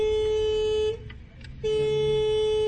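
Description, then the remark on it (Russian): The unusual horn of a small AKA car in traffic sounds two long, steady blasts with a short pause between them, loud, with no talking. “Но, услышав звук клаксона, удивляются необычному сигналу АКИ.”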